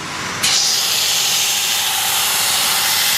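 A large sanding machine grinds down the worn sole of a Veja sneaker to repair its heel corners. It runs with a loud, steady, hissing roar that jumps up in intensity after a brief start and holds constant throughout, with no voices.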